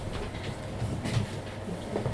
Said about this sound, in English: Sunday morning. I'm on a train somewhere in Hungary, the wrong train, as I was soon find out when the ticket worker comes around and scans my ticket.